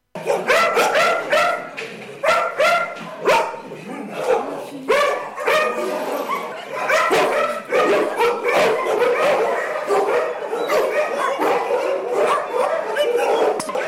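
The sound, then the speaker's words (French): Many dogs in shelter kennels bark and yip nonstop in a loud, echoing chorus of overlapping barks filling the whole space, with a guide's voice faintly audible beneath the din. “Attention, tendez l'oreille pour entendre la voix de notre guide derrière les nombreux aboiements.”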